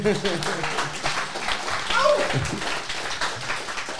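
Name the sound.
audience applause and clapping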